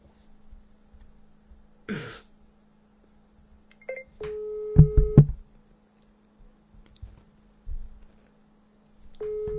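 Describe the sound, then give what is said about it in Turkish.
A phone's outgoing ringback tone, a steady single-pitched beep lasting about a second, plays twice. A cough or throat clear, low thumps and a faint line hum fill the gaps. “Çalıyor, bitiriyorum hadi.”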